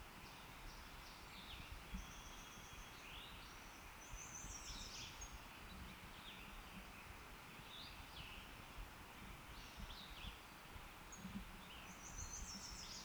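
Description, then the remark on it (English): Two thin, high-pitched notes from a bird close at hand sound faintly over a steady hiss of wind or rustling, with a couple of brighter calls standing out among softer chirps. “2 thin notes were given by a bird close at hand, not the individual giving position note.”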